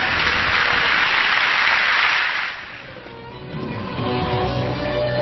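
Loud, dense crowd applause with many hands clapping at once for about two and a half seconds, then it quickly thins out and gives way to quieter, sustained tonal sounds.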